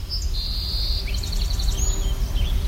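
A song sparrow sings a high, thin whistled note, then a quick trill of repeated chips and a few closing notes, over a steady low rumble of background noise.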